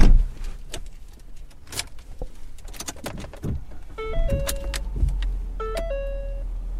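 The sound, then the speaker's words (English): A steady low engine rumble from inside a car driving to Salisbury, with a few sharp clunks early on, then two bright two-note electronic chimes ringing out a couple of seconds apart. “And ultimately, you know, because I wasn't really getting anywhere, I just decided to drive to Salisbury.”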